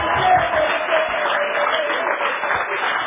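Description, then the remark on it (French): An audience breaks into steady applause, a dense crackle of many hands clapping at once that holds an even, fairly loud level for about three seconds, with no voices rising above it. “Vous ne voulez pas applaudir, je vous dis.”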